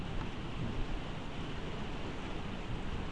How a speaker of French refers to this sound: J'essaierai de parler plus fort que la pluie, mais